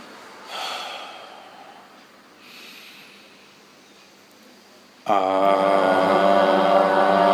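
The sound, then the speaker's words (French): Two soft, airy breaths drift by during a breathing exercise, the first a longer exhalation, before a loud, steady voiced tone suddenly starts and holds to the end. “On s'y prépare en expirant pour l'entièreté du corps.”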